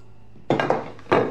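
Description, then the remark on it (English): A doll's empty plate and glass clink together a few times as they're picked up and carried into the kitchen, a quick cluster of knocks and rattles followed by one more clatter a moment later. “She rises, grabs the doll's empty plate and glass, and heads frustratedly into the kitchen.”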